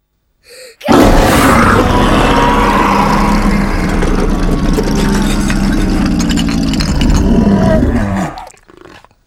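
A single long tiger growl, deep and rumbling, holds steady and loud for about seven seconds before cutting off. There is no talking.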